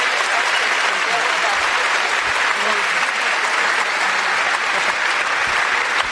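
Steady, dense applause from an audience at a talk fills the whole stretch while audience questions are being collected, a loud continuous wash of many hands clapping at an even level with no pauses.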